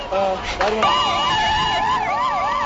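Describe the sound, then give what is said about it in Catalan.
Emergency sirens wail loudly and continuously in the chaotic aftermath of an afternoon car bombing against a United States embassy car north of Beirut, a rising-and-falling tone sweeping over a noisy street scene after a brief burst of other tones. “Això que estem sentint ja és familiar, és el so immediatament posterior a un atemptat, el que hi ha hagut aquesta tarda al nord de Beirut contra un cotxe de l'ambaixada dels Estats Units.”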